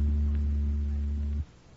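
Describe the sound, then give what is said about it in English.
A steady, low electric hum tone from an electric oscillator at about 80 cycles per second, with buzzy harmonics, holds evenly for about a second and a half, then cuts off abruptly, leaving faint background noise. “That was an electric oscillator you just heard, making the molecules reverse themselves about 80 times per second.”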